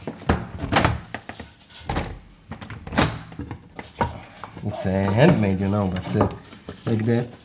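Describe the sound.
A few sharp wooden thunks and rattles as the handle of a family bunker door is jerked against a handmade wooden board fixed on the inside, its hole fitted over the handle so the handle cannot be pushed down, before a person starts talking over the rest.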